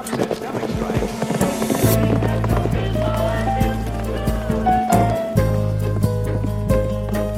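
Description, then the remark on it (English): Galloping horse hooves pound in a quick, rhythmic, steady beat over a low sustained drone with scattered tonal notes. “Sometimes a zebra escapes from the zoo, and if you don't look up to see it, it'll gallop by, sounding just like a horse.”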